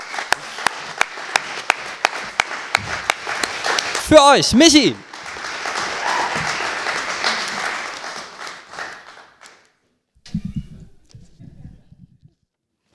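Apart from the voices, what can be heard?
audience applause and clapping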